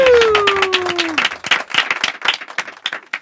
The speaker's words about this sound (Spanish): Un fuerte aplauso para Rodrigo Cortés.